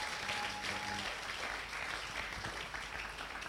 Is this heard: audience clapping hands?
yes